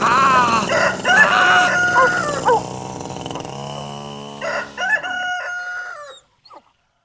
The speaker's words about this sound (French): Et à 7 heures pétantes, le coq se mit à chanter.